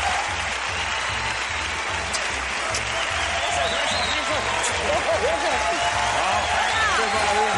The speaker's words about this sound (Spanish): Esto es un aplauso, sí, señor.